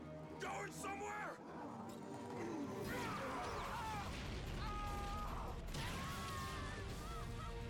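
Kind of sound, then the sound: sound effect, giant explosion sound effect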